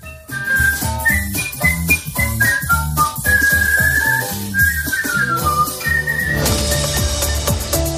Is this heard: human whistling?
yes